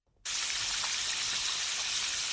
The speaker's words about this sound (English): I actually can't believe that this is how they do the sound of rain. So this is how they make rain in movies. Yes. A Foley artist said, I'm not outside in the rain with the microphone.